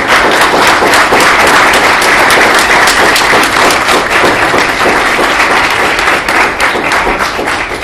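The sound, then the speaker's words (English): A crowd applauds steadily and loudly at the end of a panel discussion, many hands clapping in a dense, crackling wash that holds without pause for several seconds, with no voices heard over it. “And can we give a round of applause?”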